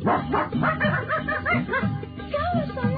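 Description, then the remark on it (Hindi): Several dogs of a settlement bark and yip excitedly over one another in a continuous, overlapping chorus, loud throughout. “एक दफा उस बस्ती के कुत्तों ने उसको देख लिया।”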